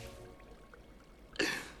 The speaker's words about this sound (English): The frog king splutters and coughs before seemingly succumbing to his death.